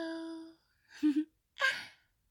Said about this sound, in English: I know you're in there. I can hear you breathing.